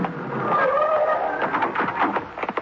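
A big black car with its lights off rolls up with a rising engine hum and a whining squeal of brakes, followed by a series of short rattling scrapes as it comes to a stop.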